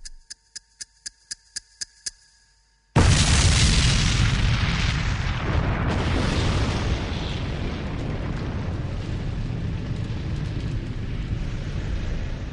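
A rapid series of sharp, evenly spaced ticks, like a countdown, suddenly gives way to a massive, loud explosion blowing apart a wardrobe full of papers in an already destroyed home, its roaring, rumbling debris noise continuing for several seconds.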